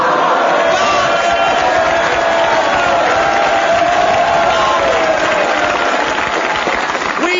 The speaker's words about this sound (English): We have lately received a number of complaints that this program is too noisy and that our audience has been laughing too loud and clapping too much. In fact, we do make a fortune by exporting our spare applause to the Andy Williams Show.